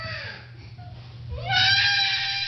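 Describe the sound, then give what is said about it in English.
A child cries and screams in a tantrum, starting with quieter whimpering sobs before rising into a loud, sustained, high-pitched wail. “When children are at the peak of anger and they're screaming and they're kicking, probably asking questions might prolong that period of anger.”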